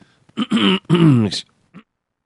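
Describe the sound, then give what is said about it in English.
A fairly loud two-part throat clearing, a voiced rasp that breaks briefly in the middle, followed by a small faint sound after a short pause. “Excuse me, I should hit the cough button.”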